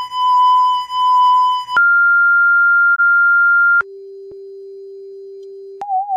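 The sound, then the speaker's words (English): A sequence of pure electronic sine tones from an album of sine waves and silence by a female Japanese performer, each held steadily then abruptly switched: a pulsing high tone, a steady mid tone, a long low tone, and finally a brief wavering one. “an album by a female Japanese performer, …, which is basically sine waves and silence”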